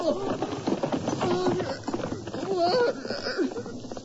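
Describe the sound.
Horse hooves clip-clop in a quick, steady rhythm as a horse is ridden away, partly buried under several voices talking and exclaiming over them.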